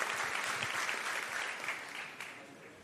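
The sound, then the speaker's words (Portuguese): A crowd applauds the Lord after a short testimony, a steady, dense wash of many hands clapping at once, holding fairly even in volume before easing off slightly toward the end. “Aplauso o Senhor pela vida dele, que representa.”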